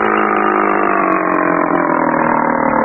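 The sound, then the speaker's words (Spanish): A motorboat engine drones loudly and steadily, its deep mechanical hum constant throughout, with no voices, as the motor launch approaches the docks at night. “Hacía señales con una lámpara de mano hacia una lancha de motor que se aproximaba, amparada por las sombras de la noche.”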